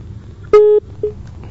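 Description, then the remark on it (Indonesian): A steady electronic telephone tone sounds for about a quarter second, followed by a second shorter beep, signaling a caller's telephone line cut off during a phone-in question, over low background rumble. “Terputus, kita akan tunggu kembali.”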